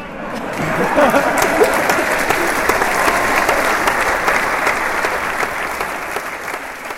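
Steady, dense applause from a large audience at the Zurich Opera House after Alexander Pereira's farewell performance, in which he sang on stage as Falstaff. The applause lasted about a quarter of an hour and is shortened here. It is a continuous wash of many hands clapping that swells quickly and holds strong before easing slightly at the end.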